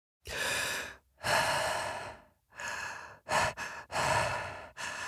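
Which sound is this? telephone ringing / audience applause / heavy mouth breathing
heavy mouth breathing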